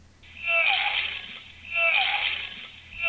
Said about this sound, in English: The new custom ringtone for my cell phone is an example of digitized analog, like this.